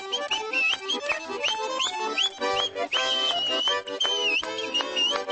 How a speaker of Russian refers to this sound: вот так залихватски свистит. Она же и заводила праздника.